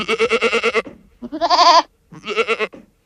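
A goat bleats three times in quick succession, each call quavering and nasal, the middle one highest and most strained. Fairly loud, with no talking.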